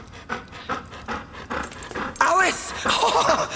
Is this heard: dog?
yes